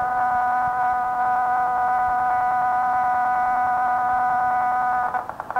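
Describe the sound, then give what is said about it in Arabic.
A mobile phone ringtone in the audience plays loudly and steadily, a sustained electronic warble of layered tones that breaks into quick pulsing beeps at the very end. No one speaks over it. “الإخوان الجوال مفتوح يقطعوا.”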